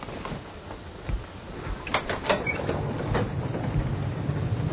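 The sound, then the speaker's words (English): A train rolling along the tracks, a steady rumbling drone broken by a few sharp rhythmic clacks and rattles, continuous, with no voices. “He was searching the train for Sirius Black.”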